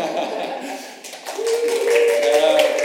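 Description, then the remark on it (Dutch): An audience breaks into applause, a dense, steady patter of many hands that swells slightly partway through, with a sustained tone of cheering or laughter rising above the clapping. “Alleen dat is al een applaus waard.”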